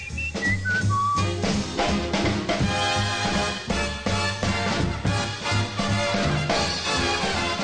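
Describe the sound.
A man whistles like a bird, with bright trills and glides over a loud, steady band accompaniment. Quick high warbling notes carry a melody throughout the passage.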